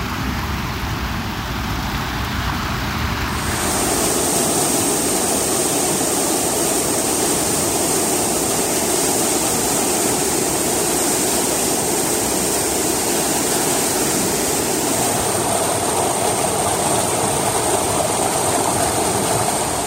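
river water flowing

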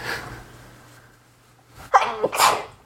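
sneeze

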